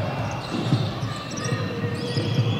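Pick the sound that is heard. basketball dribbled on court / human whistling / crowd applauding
basketball dribbled on court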